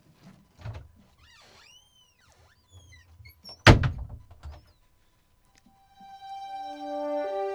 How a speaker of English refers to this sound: make sure the door is shut tight when we leave. I'll do it.